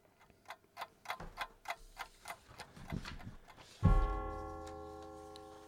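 A clock ticks steadily at a brisk, even pace for several seconds, then a loud, sustained ringing tone cuts in and slowly fades while the ticking stops.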